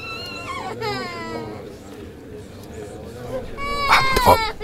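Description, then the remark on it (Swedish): A young child cries and bawls in drawn-out, wavering wails that swell louder toward the end, with a noisy background murmur underneath. “Värst var den där ungen sitter och bölar hela tiden.”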